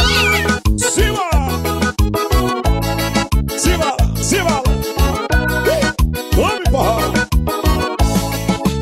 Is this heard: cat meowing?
yes